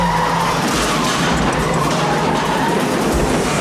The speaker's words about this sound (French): Énorme poursuite à voiture dans les rues de Brooklyn qui se terminera à la boucherie.